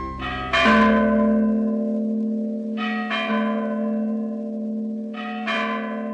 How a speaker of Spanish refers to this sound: Ahí está Rubén, carajo, dándole a esa campana. Por más de 50 años, Rubén Aguirre, conocido como Rubén el Campanero, hizo sonar las campanas de la Basílica de Nuestra Señora de Chiquinquirá.